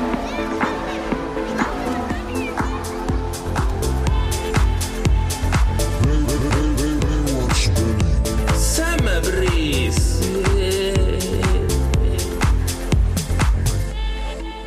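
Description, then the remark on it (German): A loud, upbeat jingle, the opener of the show Baywatch Berlin Summer Breeze, plays from a boombox for about fifteen seconds, with steady punchy percussion, sustained chords and swooping, gliding melodic tones, cutting off abruptly at the end. “Das ist der Opener von Baywatch Berlin Summer Breeze. Mach das mal an hier.”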